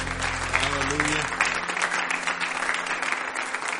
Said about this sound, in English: the hand clap.